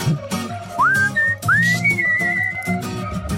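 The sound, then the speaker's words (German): Someone whistles a short melody, clear, with sliding rising notes held at steady pitches, over a soft musical background and no talking. “Fang nicht an zu pfeifen.”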